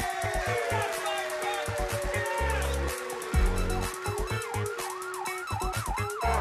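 A fire truck siren wails loudly, sliding up and down and then quickening into a rapid rising-and-falling yelp, over a steady thumping musical beat.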